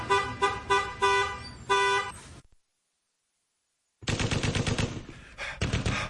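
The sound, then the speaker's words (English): A few loud honking blasts give way to two seconds of silence, then dense bursts of rapid gunfire from a war raging outside a foxhole rattle continuously, with no voices. “You're in a foxhole with a war raging outside.”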